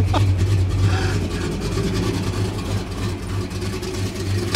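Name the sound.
car engine idling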